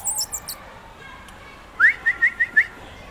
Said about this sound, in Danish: Og så plejer jeg lige at fløjte lidt og lave sådan et lyde, fordi det skal han jo helst ikke reagere på. Og der er der nogle sådan små tegn på, at den måske er ved at lære. Den kommer ikke længere farende ud, når han fløjter, for eksempel.